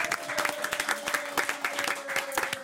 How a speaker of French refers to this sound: Et là, on applaudit.